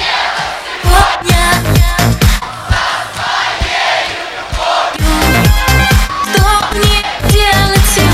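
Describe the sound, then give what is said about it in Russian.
A loud audience roars in sustained applause and cheering, with shouts and whistles rising over dense clapping that holds steady for the whole stretch. “Больше оваций не будет.”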